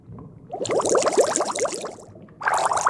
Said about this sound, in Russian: Как тут мокро. Я умею пускать пузырьки.